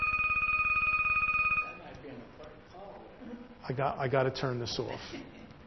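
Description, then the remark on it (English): A telephone rings loudly for about a second and a half with a steady electronic trill, then stops as a man begins talking. “I'm going to keep getting phone calls.”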